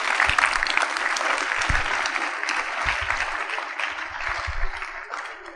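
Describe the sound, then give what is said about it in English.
A crowd claps steadily for several seconds, a dense, bright wash of many hands at fairly even loudness with a few low thumps underneath, thinning slightly toward the end. “I thought you would clap better than you are clapping.”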